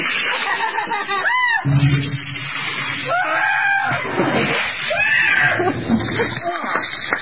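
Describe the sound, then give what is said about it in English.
Several people let out loud, high-pitched screams and yelps that rise and fall in overlapping bursts for several seconds as ice water is dumped on them for the ALS Ice Bucket Challenge, with excited voices mixed in throughout. “Give a listen, and the highest pitch scream is not”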